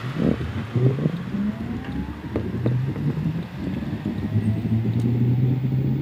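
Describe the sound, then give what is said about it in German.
A steady low rumble of a UNU electric scooter in motion, recorded by a rider on the back seat holding the microphone right at the motor, with a faint rising motor whine and constant buffeting wind noise over the microphone, no voices. “Die Fahrt ist fast lautlos, der Fahrtwind meist lauter als der Motor.”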